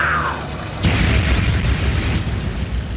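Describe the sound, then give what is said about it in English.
A single heavy tank cannon blast erupts with a deep boom, followed by a long, rumbling roar and crackling debris that stays loud before slowly fading. “And just on a bigger scale, it's what you do with tanks. Fire!”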